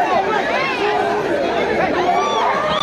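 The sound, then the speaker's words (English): A dense, agitated crowd of mostly Haitian migrants trying to rush an asylum office in Mexico clamors nonstop, many overlapping voices shouting and calling out at once, loud, with no single speaker standing out. “At an asylum office in Mexico, a crowd of mostly Haitian migrants trying to rush the building, some having waited weeks for an appointment.”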